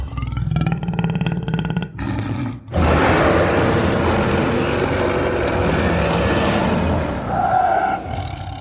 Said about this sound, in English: as a bonus action, because he's not trying to curry favor anymore, he just gives a bellowing lion's roar straight into your face.